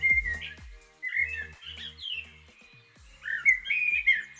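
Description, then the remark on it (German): A common blackbird sings a run of clear, fluting whistled phrases with short pauses between them, moderately loud, with no voices present. “Und wenn ihr diesen Vogel zum Beispiel hört, da könnt ihr dann ganz easy und locker nebenbei erwähnen, ach, da piept wieder die Amsel.”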